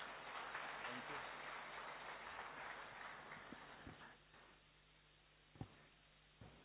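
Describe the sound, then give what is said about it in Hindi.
An audience at a stage event claps again at the host's request, in a dense, steady burst that gradually thins out, leaving a few scattered, sharper claps toward the end. “हाँ, बजा दीजिए दोबारा ताली।”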